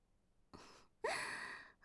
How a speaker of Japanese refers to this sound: はあって、すごい息遣い。